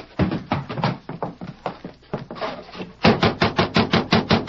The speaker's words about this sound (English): They quickly hitched their horses and knocked on the door.